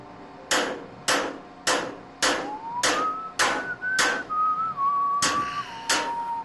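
A person whistles a wavering, mid-pitched tune that starts a couple of seconds in, over steady, loud hammer blows landing roughly twice per second, about nine strikes in all.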